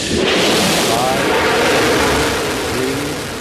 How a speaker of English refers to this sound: 5, 3, 2, 1. We have booster ignition and liftoff of the Space Shuttle Endeavour, providing power to the station as we continue to build our future in space.